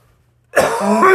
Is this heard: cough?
yes